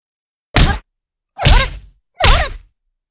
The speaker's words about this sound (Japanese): あたしのパンチが顔に当たるたびに情けない悲鳴出ちゃうね。